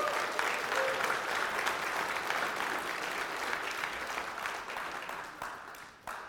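A crowd gives all the moms a round of applause on Mother's Day morning, clapping steadily for several seconds in a dense wash that stays loud before tapering off near the end with a few final claps.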